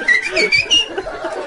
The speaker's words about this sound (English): Did you see this crazy homeless guy wearing a gay blue shirt whistling?